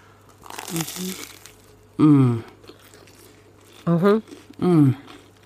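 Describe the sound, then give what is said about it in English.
A short crunchy bite into a buttery toasted sourdough sandwich with three cheeses, a brief crackling burst, followed by several drawn-out voiced hums or moans with quiet pauses between. “Oh, can you hear the crunch?”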